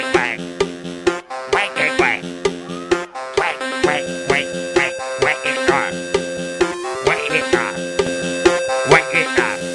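A voice sings imitated duck quacks in quick repeated pairs over bright, upbeat backing music, with the quacks bouncing along to a steady rhythm.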